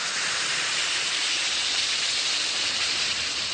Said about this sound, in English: Just drop a tablet or two into a glass of water like this. Listen to it fizz.